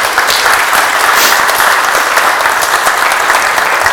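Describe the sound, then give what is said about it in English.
A crowd claps steadily for a recent college graduate who finished magna cum laude, in dense, continuous applause with no pauses. The many overlapping hand claps form a loud, even wash that holds for several seconds with no voices. “who has just graduated from college from Suwannee, the University of the South, magna cum laude, which I think deserves a quick round of applause.”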